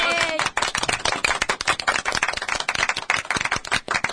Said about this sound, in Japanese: 知ってる就活働こうを考えるライブトーク番組、今日をもって第277回目を開始。拍手。イエーイ。